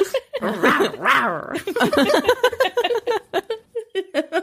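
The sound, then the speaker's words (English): A woman imitates a dog with her voice: a couple of drawn-out, whiny yelps followed by a rapid, uneven run of short barks and yips, fairly loud. “No, I bark. Okay. Start growling.”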